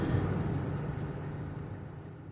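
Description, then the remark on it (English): Steady low rumble of idling truck engines at a truck stop on I-80 west of Des Moines fills the scene, a continuous deep drone at moderate volume that fades slightly over a couple of seconds, with no voices. “before pulling off and sleeping for a while at a truck stop on I-80 west of Des Moines”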